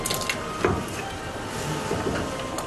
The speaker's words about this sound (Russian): Мы нарезаем картофель, как я уже говорила, соломкой. Мы добавляем немножко соли, чтобы наша картошка была подсолена. Подсаливаем всегда. И аккуратненько ломтики нашего картофеля мы опускаем в кастрюлю.